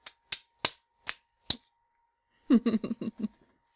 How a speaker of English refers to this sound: Oh, I'm so glad to be out of those panties. My cock likes to be free to slap around.